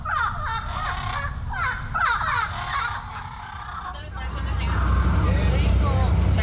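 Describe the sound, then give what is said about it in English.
Several harsh, raspy squawks from bright green parrots perched in trees overhead on the Islas Marias islands ring out in quick bursts, then fade as a steady low rumble, like a passing vehicle, swells and fills the background. “Today, herds of wild goats canter between white-painted villas and bright green parrots perch overhead in trees.”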